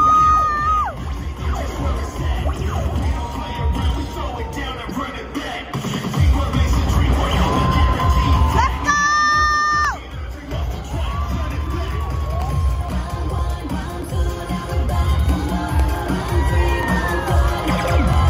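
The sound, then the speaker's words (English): A group of girls from a cheerleading gym cheers loudly and continuously at a cheerleading event, with high-pitched shouts, whoops and rhythmic chanting rising over a dense crowd roar, punctuated by a few sharp bangs. “We're going to show a little clip here of you guys cheering.”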